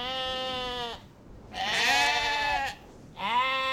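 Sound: sheep bleating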